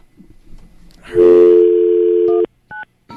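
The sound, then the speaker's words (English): A steady, loud phone tone holds for over a second, then short electronic keypad beeps follow as numbers are typed in to call back: two quick dialing tones, clear, with no talking. “Typing in numbers because it's really, really fun.”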